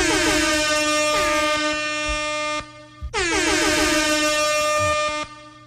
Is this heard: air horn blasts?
yes